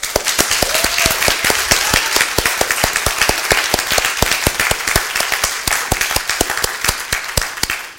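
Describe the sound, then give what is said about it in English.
An audience claps steadily for about eight seconds, dense sharp hand claps blending into continuous applause at a consistent, fairly loud level with no talking over it, clapping for God and Jesus Christ a second time. “But if we're going to clap for Jesus Christ, we're going to do a thorough job of it.”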